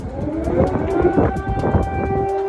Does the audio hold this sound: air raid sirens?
yes